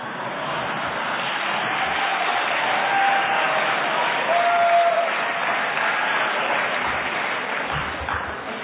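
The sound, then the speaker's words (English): A crowd applauds steadily, a dense wash of clapping at a fairly loud, even level that swells slightly in the middle and holds throughout, with no one speaking. “Everybody applauds when I talk about that from the podium, and they go right back to the meetings and let it happen.”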